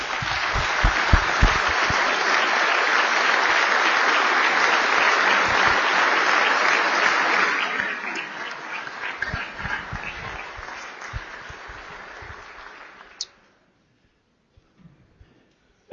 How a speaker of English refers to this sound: If everyone would join with me and give them a rousing round of applause for their work.